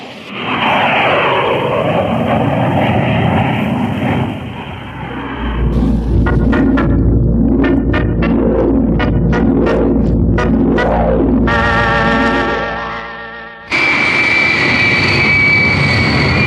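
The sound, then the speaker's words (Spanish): Loud, continuous engine roar of aircraft, with droning and throbbing tones that shift and sweep in pitch, filling the scene without any speech. “Aviones inalcanzables, tanques ligeros, motocicletas.”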